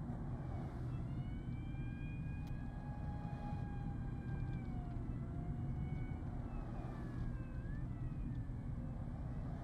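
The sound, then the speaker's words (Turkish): A steady, dense engine and road rumble from a car moving through city traffic beside a Metrobus road, with faint wavering siren-like tones drifting in; no one speaks. “Arabanın içinde gidiyorlar. Metrobüs yolunun yanından, trafiğin içinden gidiyorlar.”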